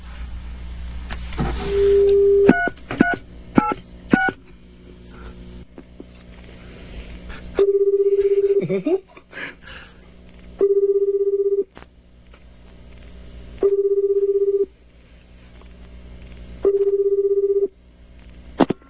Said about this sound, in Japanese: ではですね、ここら辺でちょっと電話をね、一件かけてみたいと思います。誰が出てくるかはまあお楽しみというところですけど。じゃあちょっと。